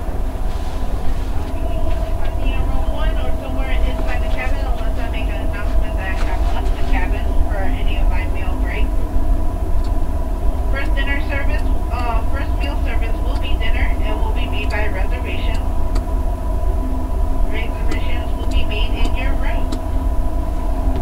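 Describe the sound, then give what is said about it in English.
A muffled public address announcement of dinner plays over a train's loudspeaker in bursts of indistinct speech, set against a steady, loud rumble and hum of the moving rail car. “Okay, well, they're just announcing dinner, which I don't want to talk about right now.”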